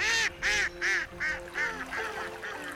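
A pair of mallard ducks touching down on a prairie pothole pond call in a steady series of about seven loud, nasal quacks, each one short and evenly spaced, with no voices around them.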